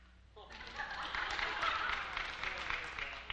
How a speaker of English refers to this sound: All right, let's say, we'll vote with applause.